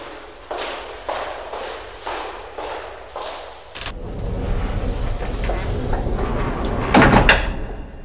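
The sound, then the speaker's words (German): Steady footsteps approach, then give way to a low rumbling background before a door is pulled shut with a solid thud near the end. “Schließt bitte hinter mir die Tür.”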